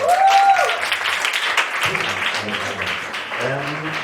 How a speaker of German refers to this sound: Bitte einen großen Applaus für unseren ersten Poeten.